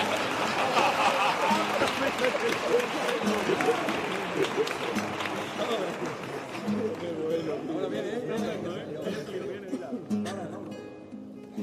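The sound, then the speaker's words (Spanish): An audience applauds in a dense, steady patter of clapping that fills the first half, then thins out as voices and crowd chatter take over. “¡Aplaudidme, aplaudidme, que soy el pregonero!”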